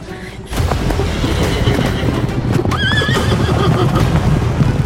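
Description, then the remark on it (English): A loud, dense clatter of galloping hooves bursts in and keeps pounding as three large horses charge at full speed down a stable hall, while a horse lets out a high, quavering whinny partway through. “Suddenly, three giant horses to our right took off, charging directly towards us at full speed.”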